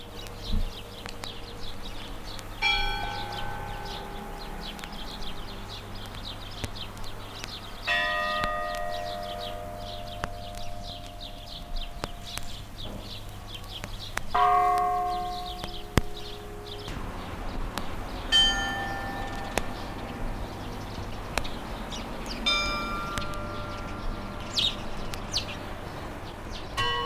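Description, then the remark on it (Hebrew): The bells of the Church of Santa Maria Magdalena in Gethsemane ring out in a slow series of separate strikes, each tone lingering and fading, over a steady low hum with birds chirping faintly in the background. “אנחנו נשמע כרגע את הפעמונים של כנסיית סנטה מריה מגדלנה בגת שמנים.”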